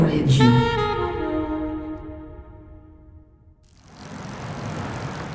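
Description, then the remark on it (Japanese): A bicycle bell rings once and its bright tone slowly fades over a few seconds, then a steady whooshing hiss of a road bike rolling along takes over. “DJ インターネットはロードバイクで移動する。”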